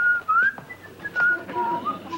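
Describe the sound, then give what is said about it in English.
Colonel Hogan whistles a short, lilting tune, with clear notes that slide smoothly up and down in pitch. No other sounds accompany it. “Colonel Hogan, you will please refrain from whistling.”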